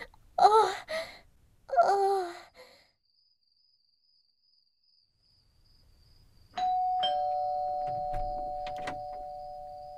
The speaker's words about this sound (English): Hey, don't ring the doorbell again. No need to be that formal, weirdo.